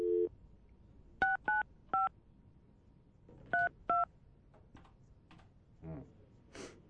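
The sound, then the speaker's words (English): A phone number being dialed to call a man: five crisp touch-tone beeps in two quick bursts, fairly loud, followed by a few soft clicks and taps. “Let's see if he answers his phone.”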